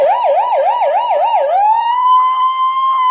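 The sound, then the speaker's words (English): A person imitates a police car siren with their voice: a loud, rapid warbling wail for about a second and a half, then one steady, high held tone, with no other sounds around it. “do your best police siren.”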